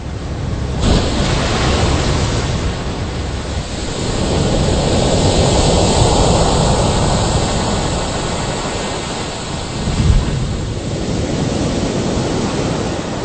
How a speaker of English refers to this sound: A frozen continent completely surrounded by ocean. Icebergs here are so large that they're measured in miles, not meters. They're the only obstacles in the path of giant waves which circle around the continent unchecked by other lands.